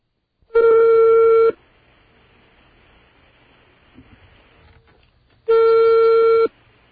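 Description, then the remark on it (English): A telephone ringback tone of an overseas call to Slovenia heard down the line: two loud, steady buzzing tones about a second each, separated by a long pause filled with faint line hiss. “There's a phone ringing in Slovenia now.”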